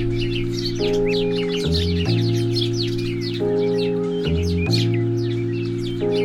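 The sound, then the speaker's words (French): Many birds chirp and tweet continuously in busy, overlapping calls, layered over a steady sustained musical chord that shifts pitch every couple of seconds. “L'indifférence des oiseaux au drame des humains.”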